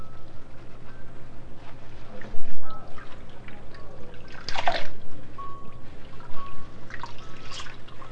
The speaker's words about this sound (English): There down the water goes. Down it goes. The water's running all out of the sink. Bye bye. All gone.